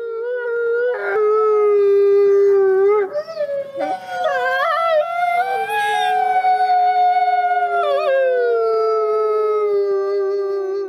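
Several wolves howl together in a sustained chorus, long overlapping wails rising and falling in pitch, filling the whole stretch with no pauses, fairly loud.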